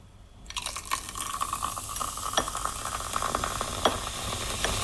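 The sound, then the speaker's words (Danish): A steady pour of liquid from a bottle that has just been opened starts after a brief pause and runs continuously, with a fizzy, crackling texture and small splashy pops throughout. No one speaks. “Når jeg hælder den op, åbner vi den lige.”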